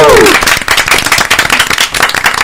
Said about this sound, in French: Allez on l'applaudit très fort.